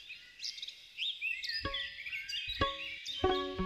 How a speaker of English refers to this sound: mic up a bunch of trees and bushes where he knew songbirds liked to sing at dawn